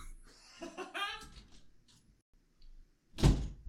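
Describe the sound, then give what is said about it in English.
A soft voice and faint rustling come first, then a single loud clack and thunk as the front door lock is checked near the end; the door is locked. “So I'm just going to double check that I locked the front door.”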